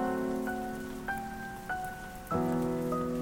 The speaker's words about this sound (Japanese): もう一度雨のリズムに合わせて、目を閉じてメロディーを弾く。一人きりの部屋が、雨の音楽に満たされ、